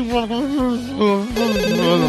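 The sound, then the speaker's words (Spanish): A melodic phone ringtone announces an incoming call during a Spanish-language show, playing a short run of steady, loud electronic notes that step between pitches and fill the whole two seconds, with no talking over it. “Atención, suena el teléfono”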